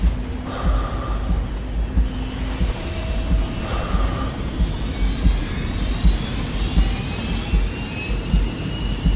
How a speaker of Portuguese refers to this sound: Boa noite, bem-vindos a bordo do voo 131 da TAP, com destino a Faro. O avião vai descolar dentro de momentos. Agradecemos que apertem os cintos de segurança.